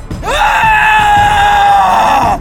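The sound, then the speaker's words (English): A man lets out a loud, raw scream of rage, rising sharply then held for about two seconds before cutting off, alone with no talking. “scream rippled like a physical thing as it tore through the people, changing the colors of their souls.”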